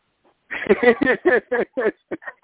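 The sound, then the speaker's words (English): A person imitates a goat's bleat, a run of quick wavering, nasal voiced pulses that trail off into a few shorter bleats. “Yeah, I'll be like one of my goats. I'll kick and scream and beller, you know, if you come and get me.”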